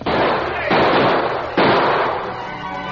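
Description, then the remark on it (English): Three loud gunshots ring out in quick succession, each a sharp blast trailing off into a long, rumbling echo before the next one hits; the bullets are fired at a man racing away from a town sheriff's office on a lawman's horse. “Dan Reed and a number of townsmen were near the sheriff's office when Dave raced away on the lawman's horse with bullets flying over his head.”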